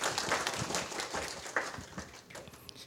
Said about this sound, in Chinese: 好，那我们就下面有热烈的掌声欢迎